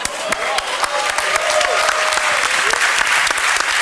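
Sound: strong applause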